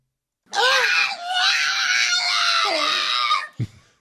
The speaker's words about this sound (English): That's actually a dog. Dee's having a rough day.